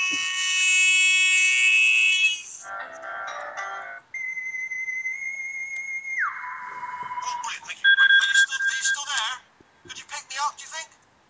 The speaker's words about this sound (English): It's the ringtone.